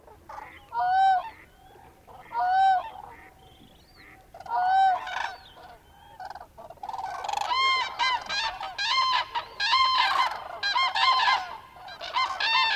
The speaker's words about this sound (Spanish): Los humedales de Cabañeros, como esta pequeña laguna que se formó gracias a las abundantes lluvias que cayeron el pasado otoño, han servido de refugio durante los últimos 3 meses a miles de aves invernantes que llegaron con las primeras heladas.